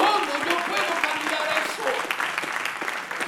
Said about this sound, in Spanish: ¿Cuánto le regalan un aplauso? How many can give praise to God this morning?